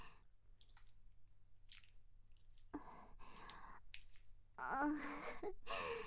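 Wet squishing of skin slick with drool used as lotion as breasts are moved up and down, the lotion foaming. It repeats in irregular slippery bursts that grow louder and messier toward the end, with no one speaking.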